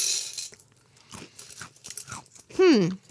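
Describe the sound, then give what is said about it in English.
A crisp, brief crunch as a small Teddy Grahams graham cracker biscuit is bitten, followed by softer chewing noises and a short, loud voiced hum toward the end. “Still tastes like Teddy Grahams.”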